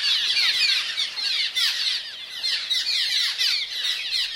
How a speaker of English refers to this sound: Doubtless the Lord must love cliff swallows, else he would not have made so many of them. The author William Dawson borrowed that concept from Abraham Lincoln when he wrote about this social bird, the cliff swallow.